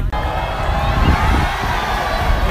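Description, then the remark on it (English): A loud, sustained roar of a home crowd cheering at night for a team returning home after winning a final, a dense wash of many voices with shouts and whoops rising through it, holding steady for a few seconds with no one speaking. “just the reaction to that crowd tonight on your return home.”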